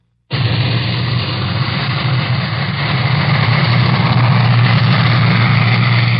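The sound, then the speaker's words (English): An atomic bomb blast in Nevada, recorded by a machine running in the transmitter tower of CBS station KLAS in Las Vegas, 45 miles from ground zero: a sudden onset into a loud, continuous low roar with a deep humming rumble that holds steady for several seconds without fading. “Our CBS station in Las Vegas, KLAS, had a recording machine running in its transmitter tower when one of the blasts went off.”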